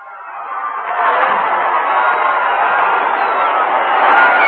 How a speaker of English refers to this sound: The carnival spirit prevails all up and down Times Square. We're just told that Wednesday and Thursday have been declared legal federal holidays, VJ days. Maybe you can hear the people screaming down there, ladies and gentlemen. Let's give a listen.